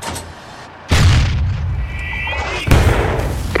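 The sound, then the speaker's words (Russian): Two heavy cannon shots fired at a tank boom out, nearly two seconds apart, each a loud deep blast followed by lingering rumble, with a faint high whistle between them. “Feuer frei auf den Panzer!”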